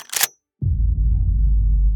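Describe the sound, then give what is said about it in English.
A shotgun being racked: a quick, sharp metallic clack-clack lasting a fraction of a second, followed by a brief silence and then a steady, loud low hum that continues to the end. “I knelt to plug the refrigerator back in when I suddenly heard the sound of a shotgun being racked.”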